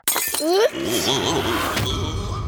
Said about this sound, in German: Mist, jetzt ist mir die Flasche runtergefallen. Und der Flaschengeist ist futsch.